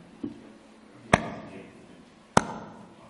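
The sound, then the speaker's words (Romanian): Two hard, dull thumps of a fist beating against a chest, about a second apart, with a fainter knock just before them, without any talking. “Și când dădea așa cu pumnul în el”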